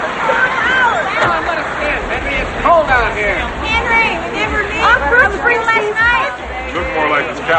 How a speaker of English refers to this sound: He pushes through a crowd and past bouncers into a club.